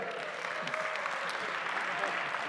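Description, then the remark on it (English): A crowd applauds steadily, a dense wash of many hands clapping at a fairly even, moderately loud level with no voices standing out. “Very enthusiastic crowd.”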